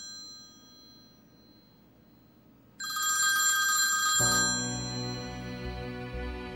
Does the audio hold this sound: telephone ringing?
yes